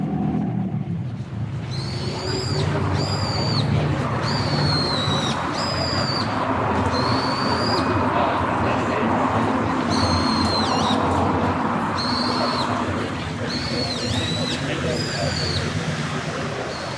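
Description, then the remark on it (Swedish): A Japanese bulbul, a starling-sized, brownish speckled bird, gives a string of short, sharp, repeated calls in loose bursts, standing out above a constant loud rumble of city noise and a passing train. “Men vad var det där för ljud? Det där är en japansk bulbil.”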